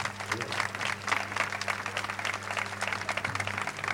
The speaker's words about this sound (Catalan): Un aplaudiment per ella.